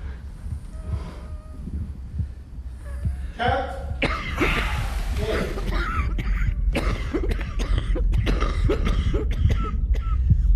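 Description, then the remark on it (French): Repeated harsh coughing fits, loud, with throat clearing and sharp breaths between bursts over steady low background noise. “Mais quand il est devenu impossible de s'empêcher de tousser pendant les prises, quand c'est moi-même qui détruis mon propre travail, ce métier magique, puissant, sportif, intense, animal, m'a été arraché par mes poumons, par mes bronches”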